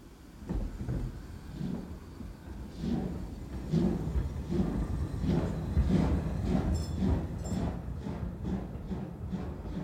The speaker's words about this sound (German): Und nun setzte sich der Zug in Bewegung.